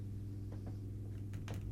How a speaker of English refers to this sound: Oh, the new neighbors and their motorcycles.